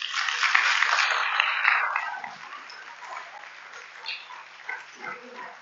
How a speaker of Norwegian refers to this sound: kan ikke gi dem en god applaus.